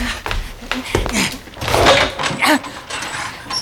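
A door in a coal cellar is opened with a series of mechanical clicks and rattles, then a longer scraping creak as it swings, with no one talking.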